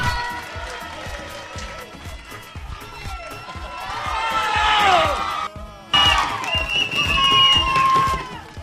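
A crowd cheers and applauds continuously for a person behind the radio show Radio Plan d'eau, with high whoops and shouts rising over a dense, steady clatter of clapping that swells louder midway and stays strong to the end.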